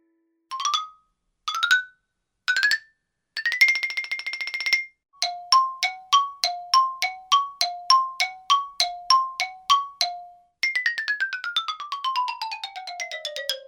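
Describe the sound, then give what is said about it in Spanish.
A xylophone plays alone: three separate struck notes, a quick rolled tremolo, a bouncy run of alternating notes, then a bright glissando sweeping down the bars. “El sonido sorpresa de hoy fue el de un instrumento musical llamado el xilófono.”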